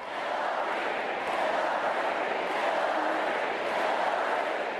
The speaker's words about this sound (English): Hillary Clinton's closing speech was met with a downpour of balloons and cheers from the crowd, who spent much of the speech chanting her name